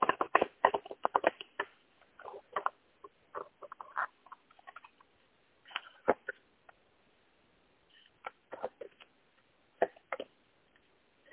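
Rapid papery flicking of a deck of cards being shuffled for a card reading, in several quick bursts with short pauses between, no voices present.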